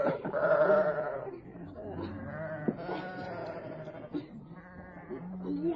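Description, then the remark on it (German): Several sheep of a flock, among them young sheep and rams, bleat repeatedly, overlapping wavering calls forming a continuous chorus, with a few louder cries rising above the flock. “Nimm dort die beiden Jungschafe mit den schwarzen Stirnflecken.”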